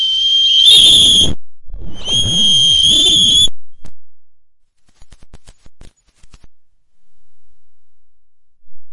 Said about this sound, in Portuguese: Um minuto de apito pelo fim da violência contra a mulher. Data 24 de novembro, às 15 horas. Vamos apitar aqui, gente, tudo junto aí? Eu tô com o meu laranja aqui, ó.